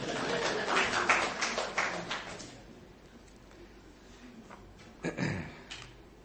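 A short round of applause from a small group, with dense scattered clapping for about two seconds that quickly thins out and fades, followed by quiet and a brief low thump.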